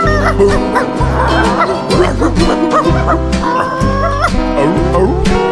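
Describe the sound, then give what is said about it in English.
A dog barks and yips repeatedly over an upbeat, bass-heavy music track, a song about a truck dog riding in a pickup, the barks loud and woven into the steady rhythm of the song. “Hey there, truck dog's the name.”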